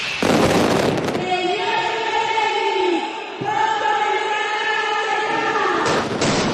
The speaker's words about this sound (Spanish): Es una labor indispensable, sobre todo en las últimas semanas que estábamos en el taller, pues oímos muchas veces la mascleta a través de la radio.